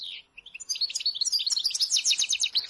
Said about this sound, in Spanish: Está hablando el jilguero. A ver qué dice.